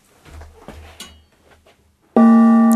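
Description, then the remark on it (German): Soft shuffling and scraping noises give way to a single loud gong strike, which rings on with a bright, sustained metallic tone full of layered overtones. “Du sprintest zum Gong.”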